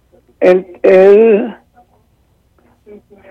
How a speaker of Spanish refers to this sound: Baje radio, por favor. Baje radio para que me escuche bien por el teléfono.